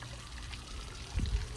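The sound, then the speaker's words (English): Pond water pours steadily into a filter squeeze bottle, a soft continuous splashing and trickling that swells slightly louder near the end, with no voices. “This is our pond water.”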